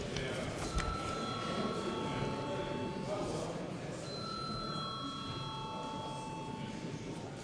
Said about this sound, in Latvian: Paldies, lūdzu zvanu.